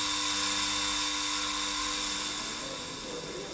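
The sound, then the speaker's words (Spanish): A jewellery shop alarm bell, set off by a brick thrown hard against the shop's glass, rings continuously with a harsh, buzzing metallic drone, loud and steady throughout and easing off slightly in the final second. “El timbre de alarma ha dado ahora paso a murmullos y ruidos de copas.”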